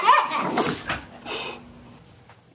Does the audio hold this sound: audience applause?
no